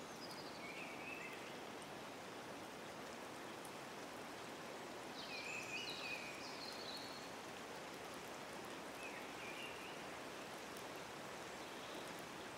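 A steady, soft wash of gently flowing water in a sunlit forest fills the scene without pause, with a few faint bird chirps rising briefly above it. No one speaks.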